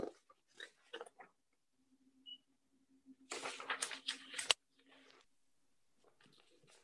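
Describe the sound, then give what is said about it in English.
Papery rustling and crinkling as stapled printed sheets are flipped through during a meeting, with a dense burst of shuffling in the middle, a faint steady hum beneath, and brief murmured voice fragments at the start and end. “I got the wrong paper stapled together here.”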